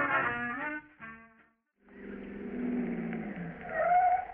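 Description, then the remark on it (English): After a snippet of music and a short pause, a car engine rumbles and comes to a halt with a brief brake squeal. “Well, here we are, Jack. Run in and get your clubs. Want to come in the house for a minute”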